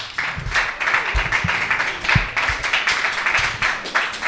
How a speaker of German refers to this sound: Und ich darf Sie an dieser Stelle herzlich auf die Bühne bitten. Einen ganz angemessenen Applaus